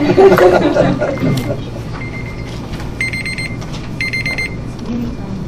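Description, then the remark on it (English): A cooking timer, left set from the last time its owner cooked, goes off during a council meeting with two short bursts of rapid, high electronic beeping, clearly audible over murmuring people who were talking just before. “I think it was my timer from the last time I cooked.”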